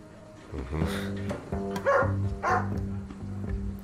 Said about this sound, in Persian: رکس، بس دیگه. سگ باهوشیه.